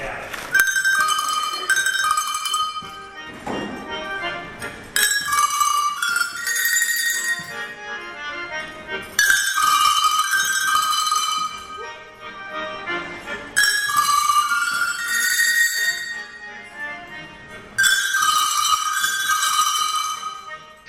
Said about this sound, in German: Ja, Kuhglocken. Ich habe das auch mal probiert. Ging ziemlich nach hinten los, ehrlich gesagt. Ja, nee, das ist sehr, sehr beliebt und also zieht doch die Leute an